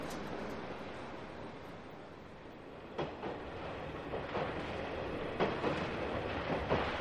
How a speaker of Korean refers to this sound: 지친 승객들을 가득 태우고 브루클린을 향해 달리는 지하철의 흔들림에 몸을 맡겼다.